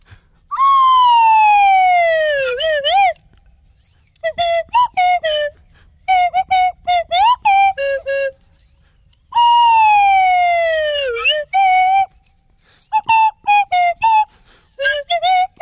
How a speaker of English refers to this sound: That's the one that doesn't speak, playing another Swanee whistle hit.